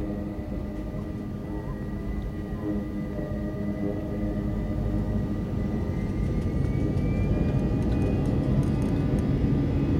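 airplane engines

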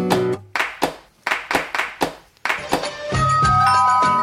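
doorbell ringing

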